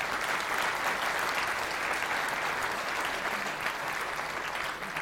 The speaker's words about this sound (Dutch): Oké, dankjewel. Mag ik een applaus voor alle lijsttrekkers?